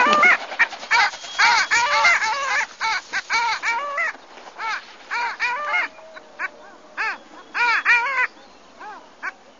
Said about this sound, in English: We're going to play a little bit of sound from this bird, and just a warning, birds this week are not necessarily good singers. Not melodious.